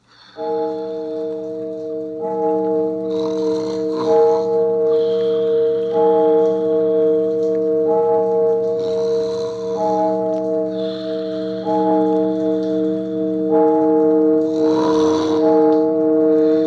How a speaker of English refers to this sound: But rain or no rain, we just waited and waited until the church clock struck 12.